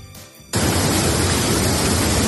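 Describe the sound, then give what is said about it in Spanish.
After a brief quieter moment, the loud, steady roar of the overflowing Corte Cero stream in Manzanares el Real, Madrid, after a morning storm takes over, a dense, hissing rush of water that holds constant to the end with no voices. “y esto que escuchas, el desbordamiento del arroyo Corte Cero a su paso por Manzanares el Real.”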